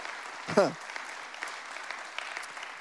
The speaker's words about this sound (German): Lass uns für das unserem Gott einen Applaus geben. Come on.